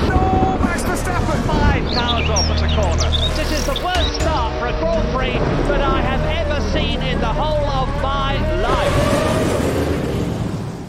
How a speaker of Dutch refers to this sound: Dus laten we het bumpertje van het weerbericht er even ingooien.